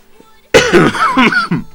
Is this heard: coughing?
yes